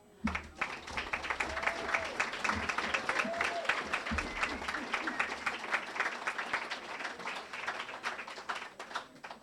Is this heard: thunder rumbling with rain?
no